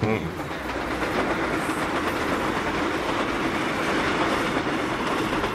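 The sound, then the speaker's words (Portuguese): A train rumbles along the rails as it rounds a curve and approaches, with a dense, continuous roar and rhythmic clatter, loud and holding steady throughout without pause. “O trem dobrava a curva e já era possível de ser avistado.”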